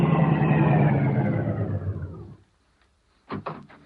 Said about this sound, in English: Car coming.